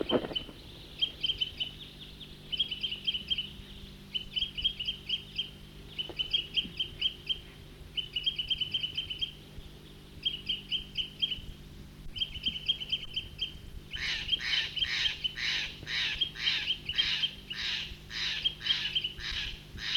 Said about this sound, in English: Big flock, about 20 birds there, back to the troopers.